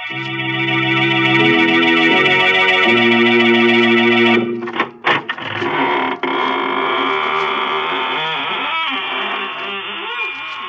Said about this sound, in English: Good evening, friends. This is your horror host at the squeaking door of the Inner Sanctum. Come in, come in.